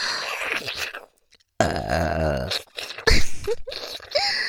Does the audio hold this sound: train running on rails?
no